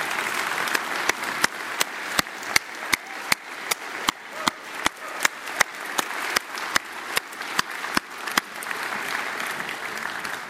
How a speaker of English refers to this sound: Well, happy Mother's Day. Would all of you mothers like to stand that we could applaud you and recognize you? Yeah? Come on.